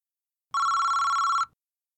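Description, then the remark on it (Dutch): A single telephone ring lasting about one second, a bright electronic trill with a steady high tone and rapid warble, then silence. No one speaks. “Een kennis bellen.”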